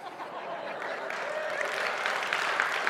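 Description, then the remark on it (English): Sustained audience applause, a dense, steady wash of many hands clapping that holds an even loudness throughout, with a faint murmur of voices mixed in. “I don't know if that deserved applause, but thank you.”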